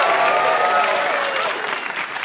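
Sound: audience clapping hands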